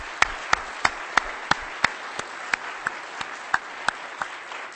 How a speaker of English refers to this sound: I believe they're listening in right now. So let's just give them a warm round of applause so they can hear that.